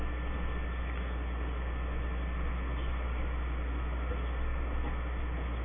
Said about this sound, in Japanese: この電車は特急電車でございます。